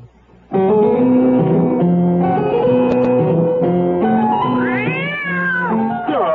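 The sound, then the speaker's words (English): A cat meows loudly and continuously for several seconds, a drawn-out, wavering yowl that rises and bends in pitch near the end, prominent with no talking. “will you quit playing with the kitty and get in here?”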